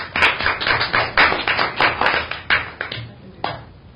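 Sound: round of applause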